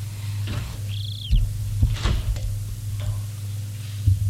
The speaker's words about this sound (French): Il referme la porte.